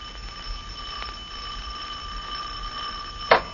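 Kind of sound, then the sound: household object, doorbell ringing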